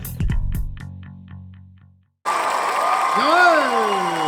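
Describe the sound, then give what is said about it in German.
A short musical sting with deep tones fades out, then after a brief gap a dense, loud crowd roar from a packed, sold-out house swells in, with overlapping voices and rising and falling whistling tones above the din. “Total ausverkauftes Haus. So, ich mache die Tür wieder zu. Das ist einfach zu laut mit den Leuten.”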